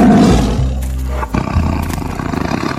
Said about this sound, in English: The tiger roared again.